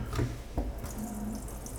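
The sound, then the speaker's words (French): A cold-water tap is opened to empty the pipes, and water runs steadily in a hissing stream, with two dull knocks near the start and a brief low pipe hum partway through. No one speaks. “Là, on va ouvrir notre robinet.”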